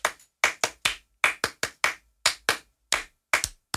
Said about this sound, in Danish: Okay, lad os lige prøve. Så laver vi sådan en klappeøvelse her.